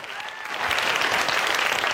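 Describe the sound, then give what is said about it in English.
Applause from wedding guests swells in after a brief moment as the father of the bride gets to his feet, dense steady clapping that holds fairly loud for the rest of the moment. “Laura applauds happily as Willie gets to his feet.”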